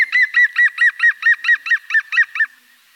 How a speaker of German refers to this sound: Grünspecht. Das ist ein Grünspecht, der lacht.